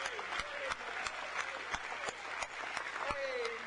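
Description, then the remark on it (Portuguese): An audience claps steadily, a dense wash of many hands with a few sharper, louder claps standing out, while a voice briefly rises over the applause. “Vamos bater palmas porque somos uns dos tais.”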